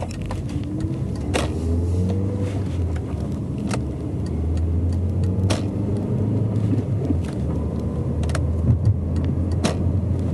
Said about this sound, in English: excuse me while I merge with traffic here.